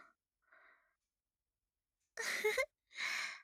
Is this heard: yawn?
yes